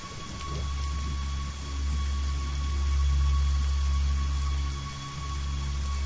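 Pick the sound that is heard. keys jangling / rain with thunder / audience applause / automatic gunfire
rain with thunder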